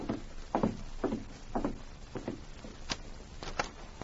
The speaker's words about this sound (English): Later that night, Don Ritchie, alone in his cabin at the edge of town, had begun to unlace his boots and prepare for bed when there was a knock on his door. Who's that?